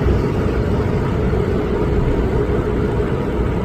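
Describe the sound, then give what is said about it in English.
A steady, low jet-engine roar from planes coming in to land at Toronto's airport during a solar eclipse, three landing in a row, holding at an even level throughout with no voices over it. “So the planes land every minute at Toronto's airport.”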